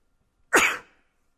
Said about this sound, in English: I got another sneeze. Usually they come in bunches